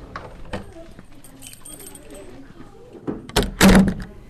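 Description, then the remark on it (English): A classroom door closes with a solid thunk as a teacher goes out to lock it from the outside during a school lockdown drill, followed by the rattle and click of keys turning in the lock, with faint background murmur and some shuffling beforehand. “She has just gone out to lock the door from the outside.”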